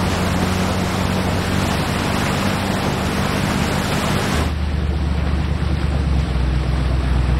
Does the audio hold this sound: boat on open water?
yes